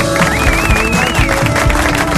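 A studio audience applauds a piano tuner guest steadily, a dense, even wash of clapping that fills the whole stretch, with a thin whistle-like tone gliding above it during the first second.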